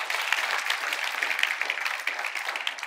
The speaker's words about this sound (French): Est-ce qu'on peut applaudir notre Dieu qui pourvoit à tous nos besoins?